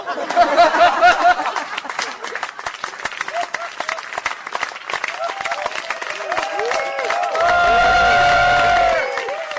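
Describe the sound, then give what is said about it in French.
The audience of the show Kitchenette applauds loudly and steadily, dense clapping filling the whole stretch, with scattered cheers and laughter mixed in and a brief louder swell near the end. “Non, merci, c'est trop d'honneur, comme quoi on peut attendre la fin du monde et être content et être joyeux et applaudir.”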